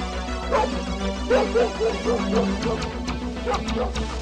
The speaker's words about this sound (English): The dog's got a scent.